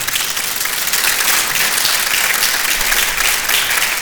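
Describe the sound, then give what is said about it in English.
Sustained applause from an orchestral concert audience, a dense, steady wash of many hands clapping at an even loudness throughout, with no speech over it. “Did you notice that phrase, applause inflation? You're encouraged to do that.”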